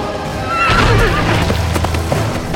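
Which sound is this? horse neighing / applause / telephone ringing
horse neighing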